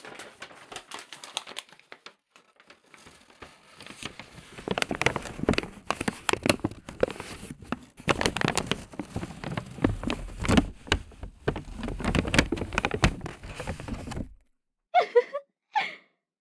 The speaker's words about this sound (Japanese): 豚ちゃんに紙袋をかぶせてあげて。